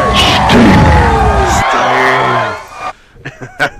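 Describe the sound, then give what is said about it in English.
A wrestling crowd roars, cheering and yelling with loud whoops and bellows for a few seconds, then the noise drops away and a few short shouts follow. “And especially, like you said, you can hear the crowd.”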